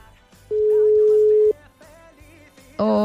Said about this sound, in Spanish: A ver, sonará el teléfono. Vale, sonando teléfono.